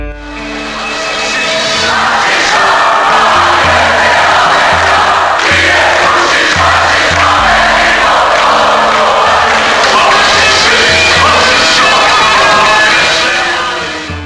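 A large, enthusiastic concert crowd cheers and shouts loudly and continuously for the six-piece Seattle band at the cultural centre in Zrenjanin, a dense roar of many voices with a low bass rumble underneath.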